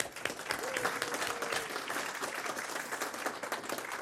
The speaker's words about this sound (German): Ihr seid ja zum Microsoft-Experten geworden und das möchten wir gleich mal mit einem Applaus honorieren für unsere Referenten.